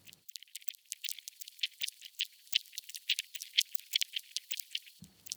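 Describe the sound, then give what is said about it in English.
Rapid, irregular high-pitched bat echolocation squeaks tangled with crackling chewing and crunching as a bat keeps flying while eating a robin, a dense rattling stream of sharp clicks that keeps going for several seconds at a moderate, uneven loudness. “the bat's echolocation squeaks were broken up by chewing and crunching as the bat kept flying while eating this robin, sort of like the equivalent of talking with your mouth full.”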